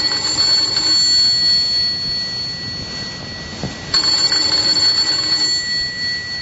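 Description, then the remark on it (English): A doorbell rings twice with a bright, sustained electric ring: a short burst at the start, a pause with a faint background, then a second, longer ring. Loud, no voices. “Let's begin this tale with the ringing of a doorbell.”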